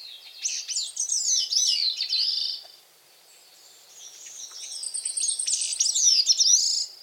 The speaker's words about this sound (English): Yet each year, this little songbird makes the long journey from the Caribbean islands to the forests of the northeastern coasts of North America to make a call that a few of us may be lucky enough to hear in person.